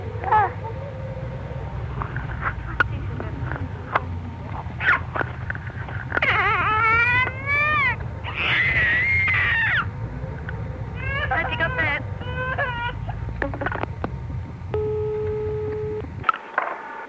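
A 15-month-old girl's high-pitched squeals and screams come through a muffled, thin telephone line, in several rising, wavering bursts over a steady low hum of background noise.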